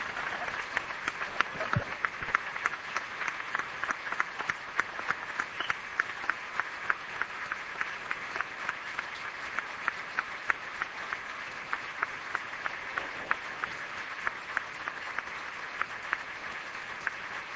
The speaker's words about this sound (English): Can I ask you just a moment to broaden your applause and thank all four members of the panel for a terrific morning.